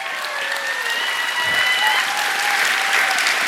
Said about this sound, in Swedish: Ja, det är värt en applåd alltså.